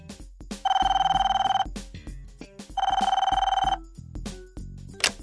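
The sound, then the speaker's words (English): A telephone ring tone sounds twice, each a steady electronic trill lasting about a second, separated by a pause, as heard on the caller's end of an outgoing phone call about an apartment, with faint background clicks. “Calvin makes a phone call.”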